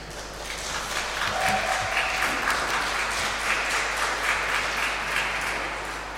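An audience applauds together in a reverberant church during a service, for an 11-year-old organist who has just played; steady sustained clapping from many hands fills the space for several seconds without pause or talking.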